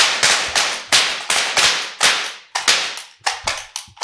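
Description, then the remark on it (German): A rapid series of about a dozen sharp, loud pops from confetti cannons, each burst trailing off in a brief hiss, fired in quick, slightly uneven succession with no talking. “Aber ich habe die Konfetti-Kanonen nachgeladen. Mega. Wollen wir jetzt einfach mal ein bisschen losballern hier?”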